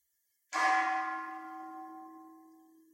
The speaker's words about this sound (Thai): ลองฟังเสียงระฆังที่แล้วรู้สึกว่าชอบหรือไม่ชอบ